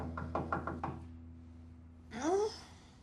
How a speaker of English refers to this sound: Is that someone knocking?